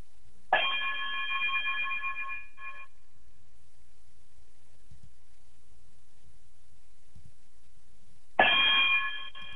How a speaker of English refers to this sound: If you would, chime us out.